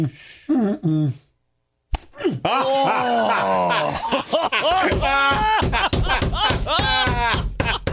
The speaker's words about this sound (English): He's holding his water. That was a precision slap.